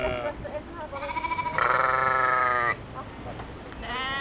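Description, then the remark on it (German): A sheep, one of many on a Hallig, a low-lying North Sea island with flat salt meadows, bleats in a long, wavering cry lasting over a second, loud, with fainter bleats before and after against an outdoor background. “Auch die vielen Schafe gehören zu den Halligbewohnern.”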